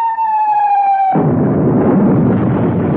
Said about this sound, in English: Hey, that wasn't a humming noise. That was a whistle and a bang. Go quick. Turn that thing off. Someone's shooting at us.